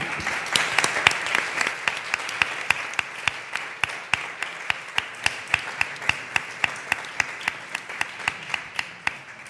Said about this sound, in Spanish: Para mí, otro aplauso para ellas.